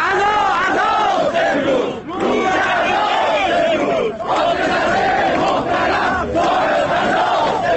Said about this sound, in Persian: در شیراز تظاهر کنندگان با تشییع نمادین سفره‌های خالی فریاد عزا سر دادند. فریادی که در دیگر شهرهای ایران هم شنیده شد.